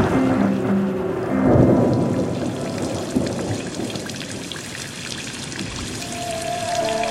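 Steady rain pours down in a dense, continuous hiss, with a low rumble swelling early on and faint sustained musical tones drifting underneath.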